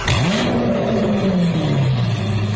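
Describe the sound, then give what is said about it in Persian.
An MG GS car, made by Chinese maker SAIC Motor, starting with a keyless push-button system: the engine fires up smoothly with a quick rev, then settles into a steady, loud idle, with no one talking. “استارتر خودرو که مجهز به سیستم بدون کلیده به نرمی موتور رو روشن میکنه و صفحه جلوی داشبورد روشن میشه.”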